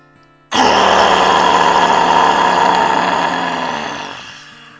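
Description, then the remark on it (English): After a big breath in, a person lets out one long, loud, breathy roar in imitation of a lion, mouth open wide and tongue stretched toward the chin, starting abruptly and holding for about three and a half seconds before fading out. “Try to touch your chin with your tongue and roar as loud as you can.”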